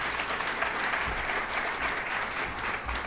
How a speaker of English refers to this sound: So a big round of applause for this team.